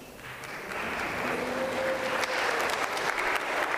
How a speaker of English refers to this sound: Thank you very much for that round of applause. All I have done is walk from one seat to stand up, so thank you for that.